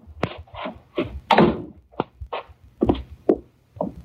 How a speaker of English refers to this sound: That's the cellar door.